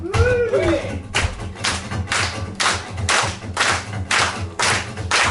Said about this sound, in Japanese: その男に全然歌を作ったからさ、どうかそれと元気つけるために皆さんの手拍子を聞かせてくれませんか。